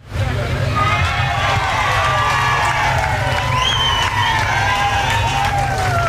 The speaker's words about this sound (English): Why that eruption of cheers? That was for President Bill Clinton, exiting the Bickerton and Ripley bookstore. Next stop on his stroll through the streets of Martha's Vineyard on September 3rd, 1994, the Truly Scrumptious Cafe.